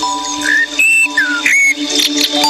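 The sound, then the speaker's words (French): An alarm ringtone plays a bright, whistle-like melody of short rising and sliding notes over steady sustained tones, fairly loud and continuous, with no one speaking. “Ah bah il y a le réveil.”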